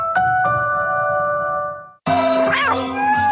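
A short cat meow from a cat called Michi rises and falls over bright, ringing musical tones, following two quick chime-like dings that hang and fade before a brief cut, in an advertisement for the Laika pet-supplies app.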